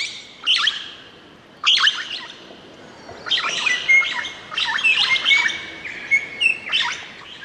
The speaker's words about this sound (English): And not surprising, it's the green Rosella, which is only found in Tasmania.